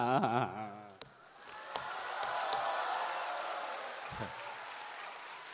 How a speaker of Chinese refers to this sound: 什么玩意儿啊，你还鼓掌？